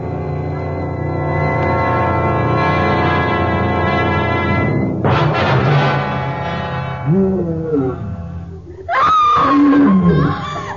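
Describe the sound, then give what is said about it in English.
A long, deep, rumbling wild beast's roar swells for several seconds and breaks into a rough snarl, followed by a woman's shrill, wavering scream rising sharply at the end; jungle sound effects in the Tarzan radio story 'Trophy Room'. “Wild beast and the scream of a woman.”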